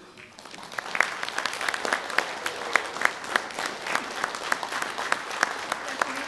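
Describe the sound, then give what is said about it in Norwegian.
An audience claps steadily for several seconds, a dense patter of many hands with a few sharper, louder claps standing out, swelling in quickly and holding at a moderate level. “Applaus.”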